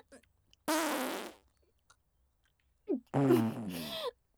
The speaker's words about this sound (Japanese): もうあなた様がこんなに一生懸命ケツ穴を舐めるから屁が漏れまくりでしょ。くさい。